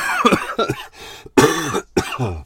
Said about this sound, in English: Stay safe. Be good. Don't cough everywhere.